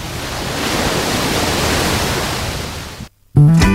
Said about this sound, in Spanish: que hoy convive con el viento, con las olas y con un montón de gente que a pesar de esta mar movida, pues disfruta la playa de Saloreña.